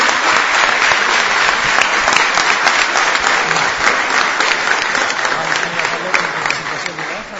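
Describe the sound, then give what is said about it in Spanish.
A loud, sustained burst of applause for two women who joined Argentina's national football team, dense clapping filling the whole stretch at a steady level before easing slightly toward the end. “creo que se merecen un fuerte aplauso porque entraron en la selección argentina de fútbol.”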